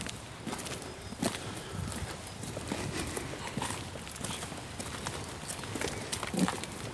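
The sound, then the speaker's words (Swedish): Lambs shuffle and move about, their small hooves tapping irregularly over a steady rustling background, with no one speaking. “Skit i de där lammen nu.”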